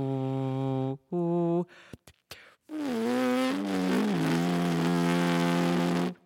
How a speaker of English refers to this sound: And this is me humming.